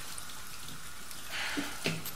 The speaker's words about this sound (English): At the tub, Sam runs a bath.